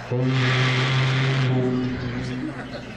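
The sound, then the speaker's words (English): A voice imitates a boat whistle in the throat, with no props, into a Shure microphone: one long, steady, tooting hum that holds loud for a couple of seconds, then wavers and fades, with a breathy hiss riding on top. “And boat whistles.”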